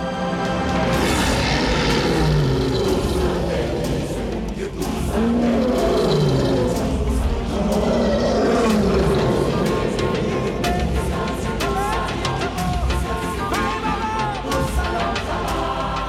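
A lion, Simba, roars powerfully and at length while walking along Pride Rock, a deep rumbling growl that swells loud within a dense, continuous wash of sound, with no talking.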